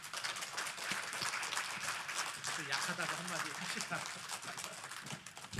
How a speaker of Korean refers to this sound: 그 마음 가지고 오늘 저녁에도 마지막 시간이 큰 명절이라고 기도해 주셨으니까 다 쏟아 부어 주실 줄로 믿고 열렬한 박수로 우리 환영합니다. 목사님 나오십니다.